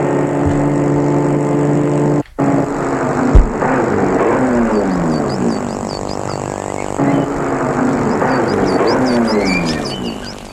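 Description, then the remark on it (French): A car engine runs loud for the whole stretch, its droning pitch rising and falling as if shifting speed, with a brief dip early on and no voices; the car arrives in Annecy and stops in front of a property with a large white villa. “La voiture s'est arrêtée devant une propriété où il y a une grande villa toute blanche, de 3 étages, signe Napoléon III.”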